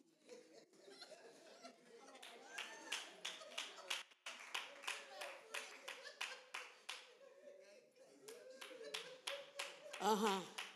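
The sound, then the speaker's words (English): Steady hand clapping by a pastor during a church sermon, a run of sharp, evenly spaced claps that keeps going for several seconds, mixed with murmuring voices and a bit of laughter underneath. “Pastor over there clapping one more time for that one.”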